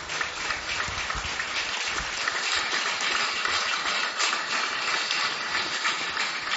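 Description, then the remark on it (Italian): An audience applauds steadily for the vice-president of the Ente Friuli nel Mondo, Alido Gerussi. Dense overlapping claps form a continuous crackling roar for several seconds at an even, fairly loud level, with no voices heard. “Io spero di fargli un applauso.”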